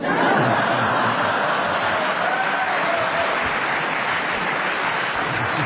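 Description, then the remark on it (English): Steady, loud audience applause fills the whole stretch, a dense wash of clapping hands that holds an even level throughout, with a few faint chuckles mixed into the crowd noise. “I don't know whether they were applauding your honesty or your boldness.”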